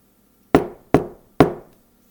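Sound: knocking on a door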